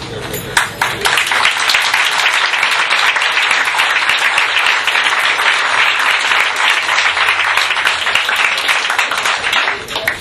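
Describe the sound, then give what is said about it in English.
Sustained applause from a large audience for a speaker, a dense, steady wash of many hands clapping for about ten seconds without pause. “Roll of applause, and thank you.”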